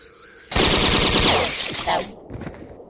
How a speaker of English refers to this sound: Automatic bolt gun.